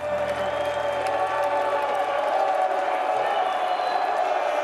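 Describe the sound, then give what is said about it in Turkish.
Thousands of people boo the Israeli singer in protest at the 2024 Eurovision Song Contest, a dense sustained roar of many voices that fills the whole clip without a break. “Binlerce kişi İsrailli şarkıcıyı yuhaladı, Gazze soykırımına ses yükseltti.”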